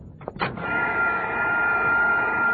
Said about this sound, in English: take that vacuum cleaner off the table. You're sucking up the sauerkraut. Just trying to show Leo how it picks up breadcrumbs.